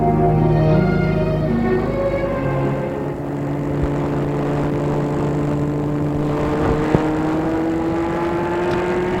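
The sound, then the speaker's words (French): A car engine hums steadily, its pitch climbing gradually as the vehicle picks up speed on a drive to a clinic. A brief click sounds near the end, and no one speaks. “Et un jour, Fernande est obligée d'aller à la clinique et c'est Émile qui l'a mené lui-même en voiture.”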